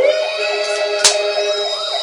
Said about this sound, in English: the fire department thinks the fire alarm went off again.